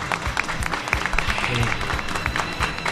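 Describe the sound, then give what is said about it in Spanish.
An audience applauds steadily for three seconds, a dense, fairly loud patter of many hands clapping with no pauses and no other voices standing out. “Más tímido el aplauso.”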